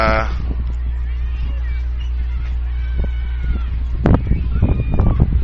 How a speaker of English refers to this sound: Flags fly out before the Jackets could get the punt off. And more boos coming from the Yellow Jacket fans.